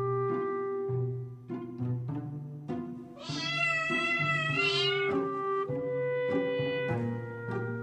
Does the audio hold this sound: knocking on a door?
no